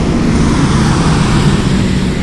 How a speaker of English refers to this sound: Let that truck get by.